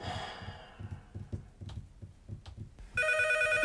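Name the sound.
telephone ringing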